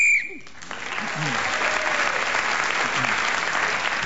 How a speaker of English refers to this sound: In this game, whoever is speaking when the whistle goes gains an extra point.